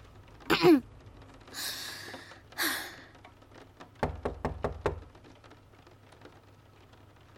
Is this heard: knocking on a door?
yes